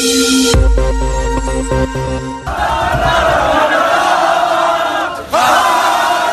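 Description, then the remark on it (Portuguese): Loud French football fans celebrating France's victory over Belgium in the streets, a dense roar of cheering and shouting, opening with sustained blaring honking horns before the crowd noise swells and stays continuous to the end. “Logo depois do apito final, milhares de torcedores franceses saíram às ruas de todo o país para festejar a vitória da França contra a Bélgica”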